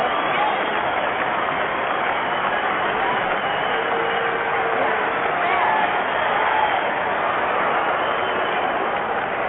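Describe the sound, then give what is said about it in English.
A crowd applauding and clapping hands in a dense, continuous wash that stays steady and fairly loud for about ten seconds, with no pauses or speech. “So that's what I want to hear, our applauses and hand clapping.”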